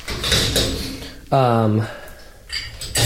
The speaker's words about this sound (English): Oh, I need to do my, I need to load my laundry, I mean my dishwasher now. I was unloading it, now I'm loading it.